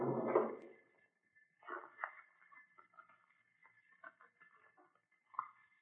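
A file cabinet drawer by the door in a museum slides open with a brief rumbling scrape, followed by scattered light clicks, taps and rustles as its contents are searched through for the museum's architect's plans. No one speaks.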